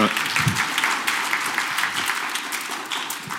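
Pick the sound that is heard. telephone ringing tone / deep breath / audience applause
audience applause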